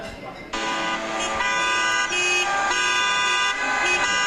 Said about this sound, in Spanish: ¿Os llega el sonido de los claxons? Eso te iba a decir, si es un vídeo de tráfico y gente desaforada, sí. Son, es la caravana que conformaron ayer en protesta por toda esta situación laboral que están viviendo.